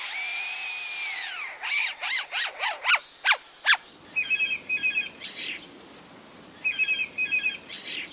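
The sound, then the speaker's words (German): A lyrebird mimics a cordless screwdriver with about seven loud whirring whines that rise and fall in quick succession, followed by quieter, buzzy chirping trills in short bursts. “Und welchen Sinn ergibt der Klingelton aus der Amselkehle nun oder der Akkuschrauber-Sound bei dem Leierschwanz?”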